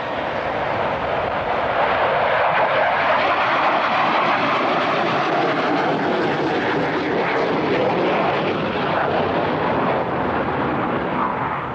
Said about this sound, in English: The frightening roar and fearful symmetry of an F-4 Phantom fighter plane racing down the runway at Subic Bay Naval Station